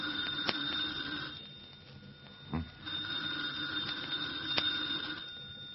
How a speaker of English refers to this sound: The phone, Comrade Svetik. Well, aren't you going to answer it?